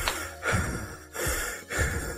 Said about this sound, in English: Am I hearing you breathing, or am I hearing something else? You're probably hearing me breathing. A little raspy, wheezy.